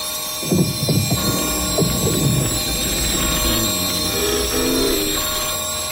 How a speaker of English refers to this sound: The clock struck 12 and the room boomed with the sound of chimes. As the sound was hungrily absorbed by the foam coverings, the wires shot across the other side of the room.